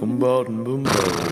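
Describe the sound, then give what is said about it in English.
A person imitates a horse whinnying: a loud, wavering voiced neigh, followed by a breathy, snorting exhale, all in about a second. “It's definitely a horse. I'm the horse.”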